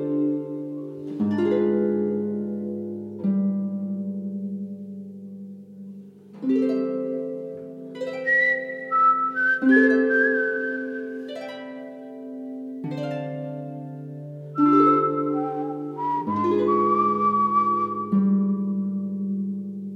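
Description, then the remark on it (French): A gentle orchestral film-score passage with soft sustained chords, over which a thin, pure whistled melody glides in slow, sliding phrases, among lighter sounds such as flute and harp. There are no voices. “Et au final, des sonorités beaucoup plus légères comme la flûte, la harpe, le sifflement reviennent jaillir au milieu du film et là, nous retrouvons Perdri, je trouve.”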